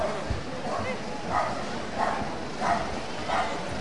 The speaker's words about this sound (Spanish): Bueno, pues los perros también están asustados al ver a estos majestuosos animales.